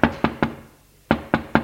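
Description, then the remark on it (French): Knocking on a bedroom door by an uncle who has gone upstairs: two sets of three firm, evenly spaced raps separated by a brief silent pause, each knock a sharp, dull thud with no voices present. “Frappe à la porte de la chambre de Daniel.”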